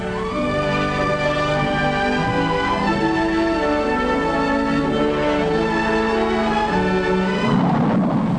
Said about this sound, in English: Takeoff, without any need for engine warm-up, with outside noise now reduced to no more than that of propeller-driven planes, capable of traveling at 575 miles per hour or more, much higher and faster than you've ever flown before.